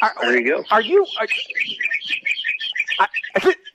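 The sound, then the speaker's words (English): A flock of about 50 to 60 wild parakeets chatter and squawk outside a barn at Palm Beach Downs in the morning, busy and overlapping, bursts of shrill calls and tweets tumbling over one another, with a couple of louder squawks standing out. “I'm standing outside of my barn at Palm Beach Downs, and believe it or not, there is a pack of wild parakeets that fly in here every morning, probably 50 to 60 of them”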